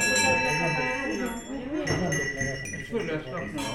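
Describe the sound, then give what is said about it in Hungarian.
A ship's bell rings with bright, lingering metallic tones, struck a few times while people talk over it. “Ez jobb lámpa hajó haranggal próbálkozik.”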